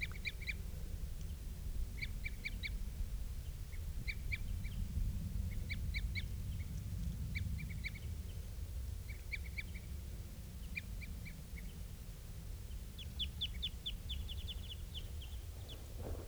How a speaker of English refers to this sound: I'm getting closer to where the birds are. And I think I hear something that sounds almost like female begging calls.